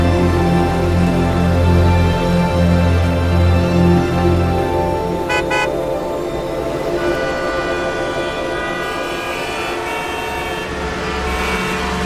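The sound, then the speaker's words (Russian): Loud, sustained horn blasts overlap continuously above a low traffic rumble, with a couple of sharp clicks midway, as car horns honk in busy traffic. No one speaks. “А в этот раз сквозь потоки машин и людей пролетел, как говорят, по зеленой.”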